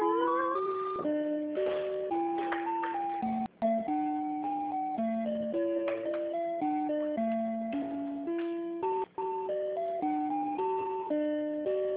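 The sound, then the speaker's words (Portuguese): Tinny, thin telephone hold music plays while a call is transferred to another department: a simple electronic melody of steady, stepping notes plays on without voices, broken by two brief dropouts. “Canta uma musiquinha, ó.”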